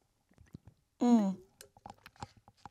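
A quiet sip of a drink, followed by a short falling vocal sigh of satisfaction and a scatter of soft mouth clicks and swallowing noises.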